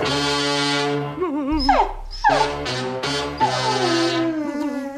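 A pug whimpers and yips, with several drawn-out, wavering whines broken by short sharp yelps, loud and continuous with no one talking.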